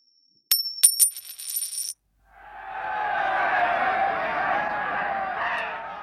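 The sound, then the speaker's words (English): Two penny coins clink and ring metallically as they're tossed and land in a game of two-up on Anzac Day, with bets on heads or tails: a few bright strikes in quick succession, followed by a swelling crowd roar of cheers and chatter. “Two-up, of course, is a gambling game that involves tossing two penny coins, ideally ones from 1915, in the air and betting on how they'll land.”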